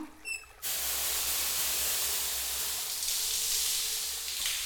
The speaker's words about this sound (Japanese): 泡泡が残らないよ、念入りにシャワーで洗い流していって、シャンプーの泡残っちゃうとフケやかゆみの原因になっちゃうのね。